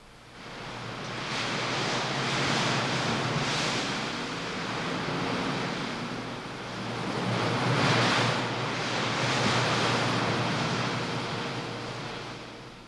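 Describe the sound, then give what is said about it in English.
Steady wind rushing through scrubby pine trees on a canyon edge, driven by a constant updraft rising from the heat at the canyon bottom; a broad hissing roar that swells in gusts and eases again, with a low, constant rumble underneath and no voices. “You know, there's an updraft all the time coming up out of the heat down there at the bottom, and that makes for a constant wind that whips at the scrubby pine trees on the canyon edge.”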